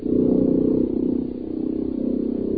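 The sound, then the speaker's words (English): A small outboard motor on a dugout canoe heading downstream on a river drones steadily, a low buzzing hum with a faint rhythmic flutter that holds an even, moderately loud level throughout, with no voices. “There, my pack-trained friend negotiated with an Indian boatman who owned a dugout canoe and an outboard motor. Within an hour, I was on my way downstream.”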